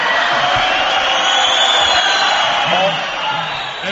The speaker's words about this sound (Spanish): Siéntate, hazme el favor. Aplaude, venga. Aplaude. Ole.